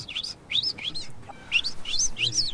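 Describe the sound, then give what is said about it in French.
A man whistles the goldfinch call he used to call his pet goldfinch with: a quick series of high, chirpy twittering notes in short bursts with brief pauses, fairly loud and with no talking over it. “Mais quand je sifflais comme ça, il reconnaissait.”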